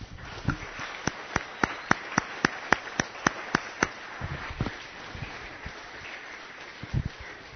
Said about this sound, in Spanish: Y gracias, hermanos, vamos a darle un aplauso a ellos.